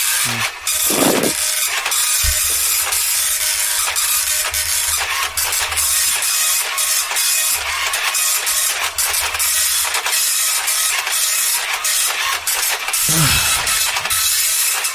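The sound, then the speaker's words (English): An old, slow printer grinds slowly through a page of scores, a steady rasping whir broken by repeated clicks and brief mechanical clunks, running continuously with no voices. “It's got a slow, an old slow printer, print the scores.”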